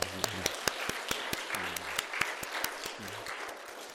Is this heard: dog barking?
no